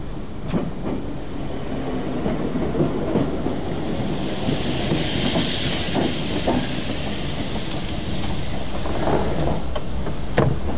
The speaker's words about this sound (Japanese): まもなく1番線に電車が参ります。黄色い線までお下がりください。